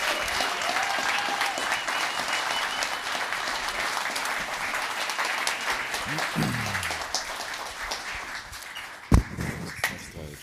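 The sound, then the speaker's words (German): Sustained audience applause for the winning team, a dense steady clatter of many hands clapping throughout, with a brief whistle and a sharp louder clap near the end. “Einmal noch bitte kurz Applaus für das Siegerteam.”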